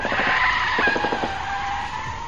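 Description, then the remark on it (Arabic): Car tires skid loudly in a sustained screech with a rough, juddering grind, with no one talking, during a high-speed car chase through the streets of Washington. “المطاردة مستمرة لكنها لن تطول، لابد من عربية لوري أو سكير مترنح أو امرأة تتعلم القيادة تعترض سيارتها طريقة فيضطر إلى ضغط الفرامل، وعندئذ لن تطول المطاردة.”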